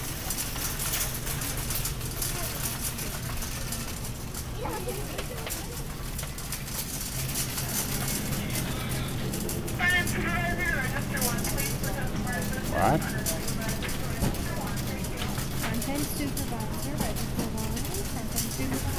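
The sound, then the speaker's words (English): A shopping cart rattles and clatters continuously during a shopping trip in a store, its wheels jittering over the ground, amid a busy, noisy ambience with indistinct voices in the background. “I did want you to hear the car and some of the cart noises to see what that did to the limiter.”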